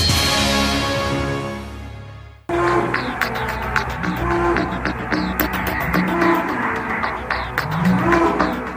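A Belgian Blue cow, a product of selective breeding, gives one long, loud, low moo, then the moo breaks off into a busy stretch of clattering, knocking barn noises.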